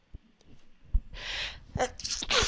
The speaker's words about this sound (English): Excuse me. I think that's the first time I've ever sneezed on the show.